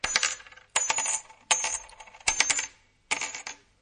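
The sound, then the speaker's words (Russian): 100 gold coins being counted out: metal coins clink down in five bright, ringing bursts at a steady, unhurried pace, each jingle tapering off before the next handful lands. No voices are heard. “Отсчитывай скорее, пока я не раздумал.”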